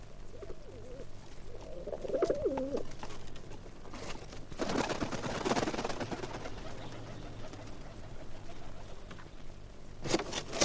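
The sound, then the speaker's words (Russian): A pigeon with a metal ring on its leg, carrying a letter attached to the ring, coos softly a couple of times in low wavering calls, followed by a rustling burst like flapping wings and some background noise. “Смотрите, к нам прилетел голубь с металлическим кольцом на ноге.”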